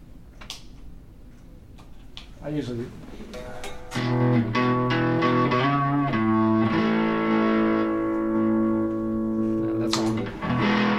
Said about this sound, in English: So yeah, that can come in handy. It can kind of fake an echo. Yeah. Which comes in handy if you're doing like little syncopated things.